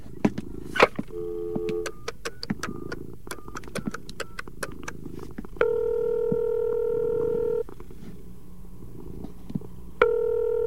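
A telephone is dialed with a series of quick button clicks and short tones, followed by a steady ringing tone that stops and starts again, clear over a low hum.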